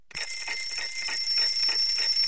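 An alarm clock rings continuously at 8 in the morning, a loud, shrill electronic tone with rapid pulsing that starts abruptly and keeps going steadily, with no voices.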